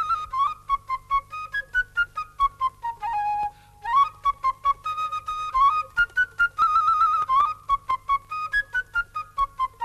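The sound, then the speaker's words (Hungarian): A lively, ornamented tune played on a whistle-like folk pipe, bright high notes running up and down in quick, bouncy phrases with short repeated articulations, fairly loud and with no one talking. “Ültek, hallgatták ezt a vidám nótát, amely cifrázva föl meg leszaladt.”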